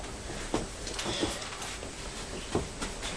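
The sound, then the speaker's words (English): A toy train engine with two carriages is pushed along a track with a low, steady rumble, broken by a few sharp clacks at irregular intervals. Quiet, with no one talking. “Where's the train engine and the train? Here it is.”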